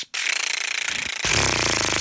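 Lips buzzing as a horn embouchure exercise, air blown through closed lips to make them vibrate, without singing: a steady, raspy flutter that starts after a brief silence and runs continuously, turning louder and fuller partway through. No one speaks.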